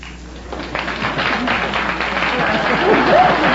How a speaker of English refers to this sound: Keep applauding, kids. Keep applauding.